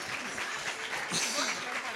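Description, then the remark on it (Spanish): A crowd claps steadily for about two seconds, a dense, even patter of many hands, with some voices faintly audible underneath. The applause welcomes two women called up to the front to speak. “Un aplauso, que les encanta estar acá, les encanta, vamos.”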